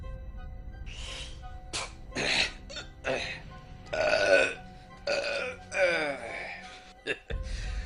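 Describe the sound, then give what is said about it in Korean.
A string of loud, gurgling burps, close up, coming one after another in irregular bursts with short pauses between them, voiced and drawn out like a person belching repeatedly after drinking. “기껏 마시고 난 뒤에 트림까지 갤갤하며 괴춤을 지고 일어난 놈들은 누구나 돈 치르려는 기색이 없었다.”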